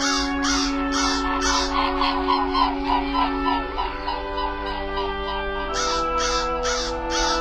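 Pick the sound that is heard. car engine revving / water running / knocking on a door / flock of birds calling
flock of birds calling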